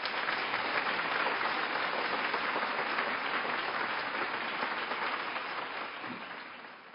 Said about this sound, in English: They're a proud lot and truly deserve your applause. Ladies and gentlemen, the working dogs.